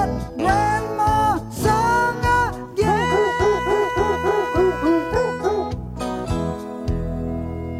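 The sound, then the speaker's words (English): Dog barks pitched into a festive Christmas melody, rapid rhythmic yaps tracing the tune over a steady backing track, loud with no talking. “I'll play them barking dogs all day”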